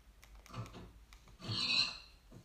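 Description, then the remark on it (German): A pig that has grown big grunts in a video game, with a short low grunt followed by a louder, raspy squealing snort in the middle, then a faint trailing grunt. No one speaks. “Das Schwein ist zu einem Big Schwein geworden.”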